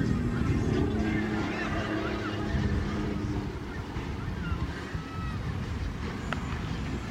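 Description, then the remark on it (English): Steady engine drone of motorboats on the water circling off a beach in tight circles, a continuous low roar with shifting pitch, mixed with wind rumble and a faint hint of voices. “They're just going in tight circles now.”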